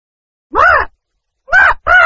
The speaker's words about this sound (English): It's me, your friend Parrot. Hello.